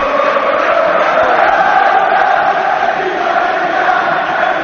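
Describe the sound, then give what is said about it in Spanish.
A football stadium crowd chants in unison, a loud, dense roar of massed voices holding a steady, droning tone that carries on without a break from start to finish. The chant, 'Del Nido, vete ya', starts among the Biris supporters and is taken up by the rest of the ground. “Que grita la gente, Víctor. Mira.”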